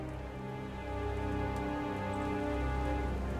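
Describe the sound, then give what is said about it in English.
Steady heavy rain pours down on a ship at sea in a dense, continuous hiss, filling the whole scene with an unbroken wash of falling water and a low rumble beneath it. No voices are heard. “"How much longer do you think the journey's going to take?" he says through the downpour.”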